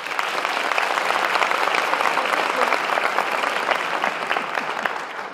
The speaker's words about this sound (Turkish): Sadece TRT'ciler alkışta bir gibi geliyor. Özel radyocu arkadaşlarım da takdir ettiler.